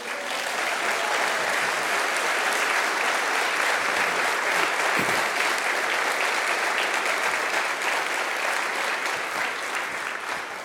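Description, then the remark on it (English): A church crowd applauds steadily for about ten seconds to welcome a political figure and her family, a dense, even wash of many hands clapping at once with no pauses and no clear rhythm. “Come on, let's clap for them.”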